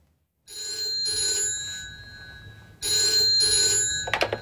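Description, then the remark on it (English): A telephone bell rings loudly in two long, jangling bursts separated by a short pause, ending with a brief clattering knock, as a call from Berlin comes through. “You can ask Conrad when he phones.”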